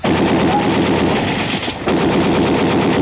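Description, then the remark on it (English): A loud, continuous barrage of rapid gunshots blasting the lock on a door, nearly three seconds of dense automatic fire with a brief lull just past the midpoint before the shooting resumes. No voices. “I'm going to blast the lock on the door.”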